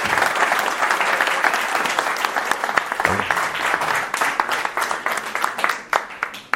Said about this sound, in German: Ein Applaus.